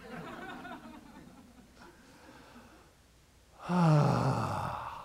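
A person demonstrates ujjayi breathing: a soft, breathy, partly voiced exhale, a short pause, then a louder voiced exhale that slides down in pitch and tapers off like a sigh.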